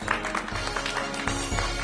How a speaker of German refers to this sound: Schließlich ist er Artist. Applaus bitte!